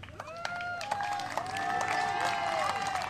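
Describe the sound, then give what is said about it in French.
An audience applauds steadily for a few seconds as a person is called up to join, scattered claps blending into a sustained wash, with cheering voices and whoops rising over it. “Allez, on peut l'applaudir bien fort.”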